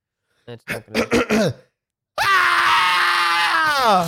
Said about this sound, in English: I heard it. I just see this huge blue bar on my Audacity. No, man. Oh, I see. Did you yell? That did not come through, bro.